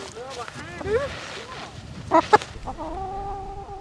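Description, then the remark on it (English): Several chickens on a farm cluck and squawk in a quick, uneven series, with a couple of louder sharp calls midway and murmuring voices faintly underneath. “What kind of chickens do these have?”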